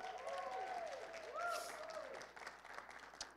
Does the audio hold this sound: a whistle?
no